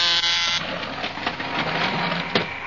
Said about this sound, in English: Here, I'll press the buzzer so you can go into her laboratory.